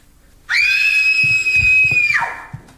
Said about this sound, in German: Nennst du das etwa Schreien? Hilfe! Hilfe! Hilfe! Ja! Hilfe! Hilfe! Hier ist ein Mörder im Haus!